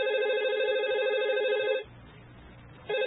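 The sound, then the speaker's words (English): A telephone rings loudly with a steady electronic trill, falls silent for about a second, then starts ringing again. No one speaks. “That damn phone!”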